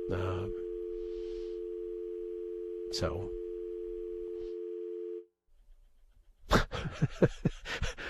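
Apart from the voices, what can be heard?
telephone dial tone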